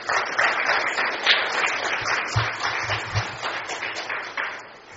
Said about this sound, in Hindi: आप सब भी ऐसे अच्छा है ताली बजाना